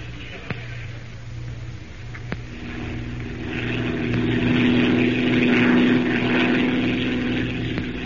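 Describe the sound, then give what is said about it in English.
A hired propeller airplane, flown by an Arabian pilot, drones steadily in flight, its engine hum swelling louder toward the middle before easing slightly, with a few sharp clicks scattered over the constant roar. “We'll have to pack, buy some clothes suitable for the jungle, and most important of all, hire a plane to get us down there.”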